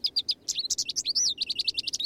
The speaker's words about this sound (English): The songs of two common finches provide a steady soundtrack in cities across North America. There's the house finch. And the American goldfinch.